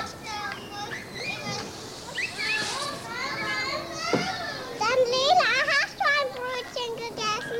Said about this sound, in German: Ein Vormittag in der Mainzer Kinderkrippe Gleiwitzer Straße. In verschiedenen Bereichen des Gartens spielen Kleinkinder alleine oder in Grüppchen. Im Sandkasten spielen sie mit ausrangierten Kochtöpfen, Wasser und Matsch.